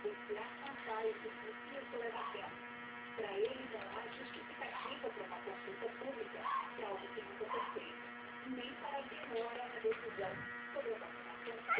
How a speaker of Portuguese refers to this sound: O ventilador está fazendo um barulho.